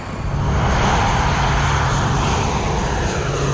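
A military patrol aircraft's engine roars loudly and steadily during takeoff, heard from on board, a dense, unbroken rumble with a low droning hum running underneath for the whole stretch, with no voices.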